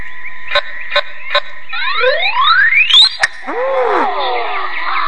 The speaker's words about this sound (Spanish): Y en cuanto presione enter, van a escuchar el indicador. Cuando oigan el tono, es cuando voy a presionar la flecha o el espacio, lo que quieran, y es cuando se le va a pegar a la pelota.